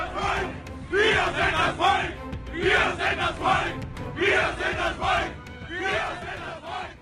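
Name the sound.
angry crowd shouting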